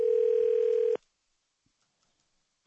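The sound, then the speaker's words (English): A steady, mid-pitched telephone ring tone of a call to the Subway Fresh Take hotline sounds loudly for about a second, then cuts off into silence before a brief sharp click at the very end. “Let's give him a call on the Subway Fresh Take hotline and see how he's feeling about the rejuvenated Yankees.”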